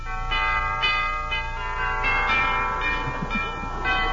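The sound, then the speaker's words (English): A doorbell at the front door of an old colonial mansion rings out an elaborate chime, a run of resonant bell tones struck roughly every half second that overlap and sustain, loud with no voices. “It's a hunk of doorbell, isn't it?”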